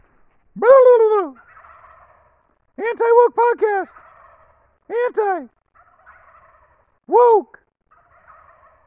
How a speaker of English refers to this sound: Check out these turkeys.